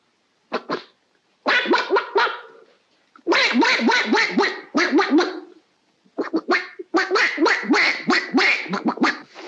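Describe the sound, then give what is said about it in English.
A man, an old uncle, imitates a duck, producing bursts of rapid, raspy quacking sounds in several loud runs separated by short pauses. “Would you like to hear old uncle make a noise like a duck?”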